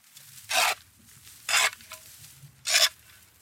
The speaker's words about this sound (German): Er will uns seinen Brunnen zeigen und schaufelt den Betondeckel frei.